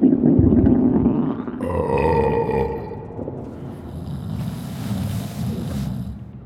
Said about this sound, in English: I can hear a snoring.